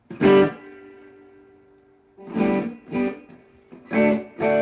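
Overdriven electric guitar, a Les Paul with humbucker pickups, through a small China-made 5-watt/1-watt tube amp: one loud chord rings out and sustains for about two seconds, then four shorter, punchy chords follow in a loose rhythm, with no talking.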